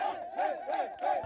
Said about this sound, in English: The crowds are wild, bro.